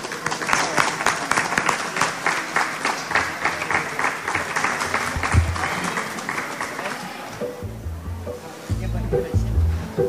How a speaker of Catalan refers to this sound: Un aplaudiment.